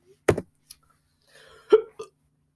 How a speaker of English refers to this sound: I got the hiccups.